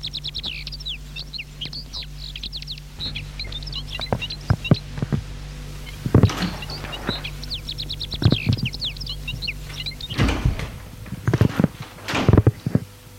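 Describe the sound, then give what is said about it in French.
A house's front door is handled and passed through into the entrance hall: a few knocks and clunks, plus a creak. Steady chirping birdsong sits in the background over a low constant hum. “Une fois avoir franchi la porte, une odeur de cire et de parfum féminin vous prend.”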